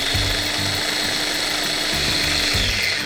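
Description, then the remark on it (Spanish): A food processor whirs steadily while blending pâté with lemon juice, olive oil, salt, pepper and dried herbs, a loud, dense motor drone with a gritty churning layer and a low hum that dips and surges in pitch. No one speaks. “Salpimentamos a gusto y añadimos las hierbas secas que más te gusten y volvemos a procesar unos segundos más para integrar bien todos los sabores.”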